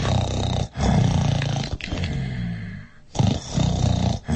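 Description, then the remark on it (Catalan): Loud, deep rumbling snores of a giant asleep in a castle come in a rhythmic series of long, growling breaths separated by brief pauses, with no talking over them. “I feia uns roncs que tot el castell tremolava.”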